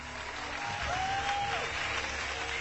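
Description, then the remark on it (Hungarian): Steady applause from a large audience, many hands clapping in a dense, continuous wash at moderate volume, with a brief sustained whistle-like tone rising above it midway. “Amikor komikusként lépett fel, állva tapsolták meg, és senki sem fújott.”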